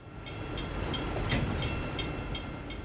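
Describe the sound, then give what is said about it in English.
A daily freight train carrying goods from Mexico to the United States rumbles steadily past in Nogales on the Mexico–US border, its wheels clacking in a regular rhythm over a heavy, continuous low roar. No voices are heard. “Here in the twin cities of Nogales, Sonora, and Nogales, Arizona, the daily train rattles residents on both sides of the border as it ships goods from Mexico to the United States.”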